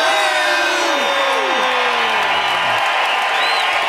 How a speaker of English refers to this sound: The crowd goes wild.